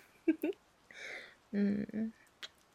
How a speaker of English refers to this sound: Oh, that was a big yawn. You made me yawn, baby.